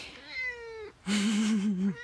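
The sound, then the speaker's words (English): A kitten meows twice in quick succession, first a thin high-pitched mew, then a louder, longer wavering cry, both clear with no talking. “And he's saying hi right now. You might hear some meows too.”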